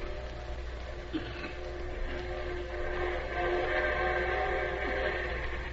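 train passing with horn

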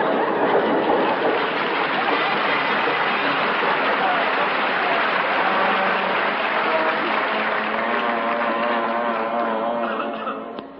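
train departing

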